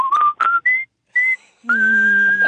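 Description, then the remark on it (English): Someone whistles a short, bright tune, a few quick rising notes with brief pauses, then one long sustained note held to the end. “The whistle's got wood! Ask for supervisor. Sounds like a number one hit tune, all right.”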